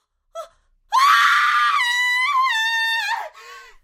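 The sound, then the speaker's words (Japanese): A brief sharp intake of breath, then a loud, sustained high-pitched female scream from a vacant lot, lasting over two seconds, wavering and trailing off into a shaky, breathy gasp; she screams on seeing what looks like a human arm sticking out of the ground. “空き地から女の悲鳴が聞こえました。”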